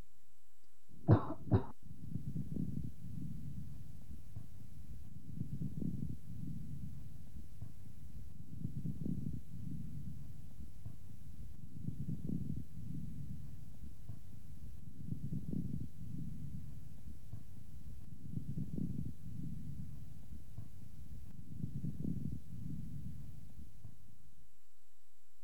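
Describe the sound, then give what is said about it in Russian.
A sharp double cough opens, then chest sounds through a stethoscope at the same chest point: slow, regular breaths every few seconds, each carrying low, moist, medium and coarse bubbling crackles in a patient with bronchiectasis. “А теперь в той же точке после покашливания.”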